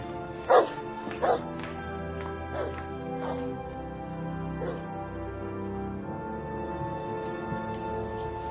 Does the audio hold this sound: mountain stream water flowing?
no